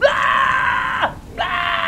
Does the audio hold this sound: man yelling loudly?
yes